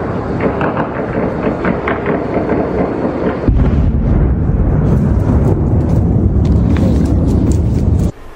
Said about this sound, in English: And here are the sounds I recorded at about 5 o'clock this morning here in Lviv. You can hear that lawnmower-like sound of the Iranian Russian drones as they get closer. And then you'll hear the air defense doggedly trying to shoot it down.